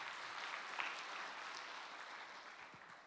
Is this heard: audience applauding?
yes